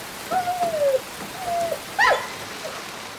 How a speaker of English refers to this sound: We can't leave Skipper outside in this rain, said Dad.